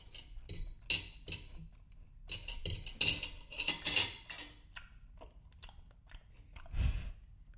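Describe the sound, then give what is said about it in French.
Wet chewing and crunching mixed with light, bright clinks of forks against plates as a family eats a meal at the table, irregular and busy over several seconds, with a soft low thump near the end and no talking. “On n'entend plus que les bruits de mâchoires et des fourchettes contre les assiettes.”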